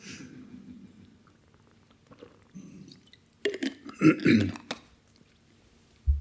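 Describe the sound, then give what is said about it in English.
A speaker pauses mid-talk to take a drink of water: quiet low murmurs, then a cluster of wet gulps and swallows over about a second, followed by a brief soft gulp at the end. “sorry, just have a drink of water. I'm getting a little bit dry.”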